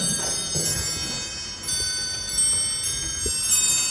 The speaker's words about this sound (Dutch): Portje, wat horen we nou? Oh! Een hele oude klok.